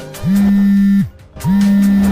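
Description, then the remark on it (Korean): A telephone rings with two long, steady electronic tones separated by a brief pause, loud, with no voices; a call being placed to the number on the Ali Group chairman's business card. “정적을 뚫고 울리는 벨소리.”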